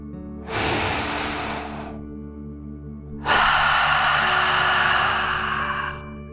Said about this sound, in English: As you imagine the elephant, let's take another deep dragon breath. Here we go. Deep breath in and out.